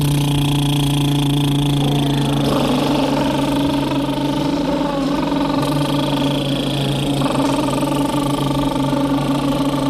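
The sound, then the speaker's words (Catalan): A sustained, loud buzzing lip trill done as a vocal warm-up exercise, with lips fluttering like an idling motor while the pitch holds and then glides up and down, continuous for the whole stretch with no talking. “No hace falta afinarlo, no hace falta cantar, solo hay que hacer un sonido, pues, como una pedorreta.”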